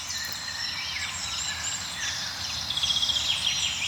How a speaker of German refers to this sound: Ja, wir hören so einen milden Amselteppich noch um uns herum, also so einen Klangteppich aus verschiedenen Amseln, die von weit oben singen.